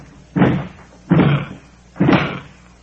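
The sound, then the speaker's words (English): Three heavy, evenly spaced blows slam against a wooden door as someone tries to break it in, each a loud booming thud with a short rattling decay, with no talking. “I'll hit her one time here. I'll bust it in.”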